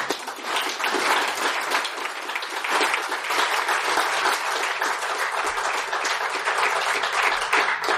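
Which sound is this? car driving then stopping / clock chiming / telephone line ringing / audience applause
audience applause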